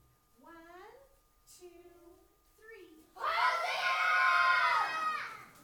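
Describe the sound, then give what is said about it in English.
An adult voice speaks briefly, then a large group of children waving branches bursts into a loud, sustained shout of "Hosanna" together, lasting about two seconds. “So I want you to wave your branches, and I'm going to count to three, and then we're going to yell, Hosanna.”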